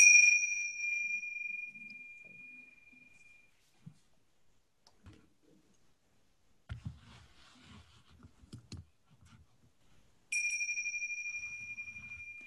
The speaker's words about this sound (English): And then we'll just take some time. I'm going to ring a chime. And just go into a place where you can really see what's happening in you.